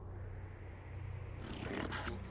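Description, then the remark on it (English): A huge sleeping creature breathes: a deep, steady rumbling drone that swells into a long, airy exhale partway through. Low and purring, with no voices. “If we listen carefully, we can hear it breathing.”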